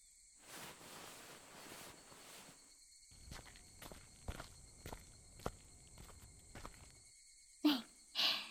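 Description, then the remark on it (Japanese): Steady footsteps walking at an even pace toward a shrine's torii gate, around eight soft crunching steps, with a constant high insect chirring underneath and two sharper rustling bursts at the end. “鳥居までお見送りしますね。”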